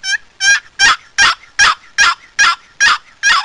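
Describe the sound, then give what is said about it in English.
A steady series of about nine loud, raspy gobbler yelps on a turkey box call, played with the call turned over, paddle handle up and drawn across, the yelps lengthened, evenly spaced at a slow, deliberate rhythm, clear with no talking. “Anyway, that's a gobbler yelp.”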